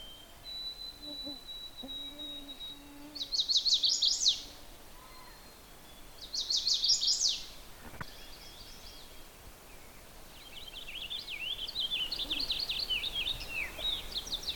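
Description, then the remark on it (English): A purple finch sings bright, rapid warbling phrases in several bursts, the last one longer and rambling, in a transitional boreal woods of conifers and deciduous trees, set against a quiet outdoor background with no talking. “That's a very sweet song of a purple finch.”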